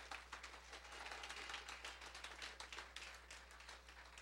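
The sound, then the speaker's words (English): A room full of people claps steadily, dense overlapping hand claps forming a sustained burst of applause, fairly loud, with a steady low hum underneath. “And we want to just give them a round of applause.”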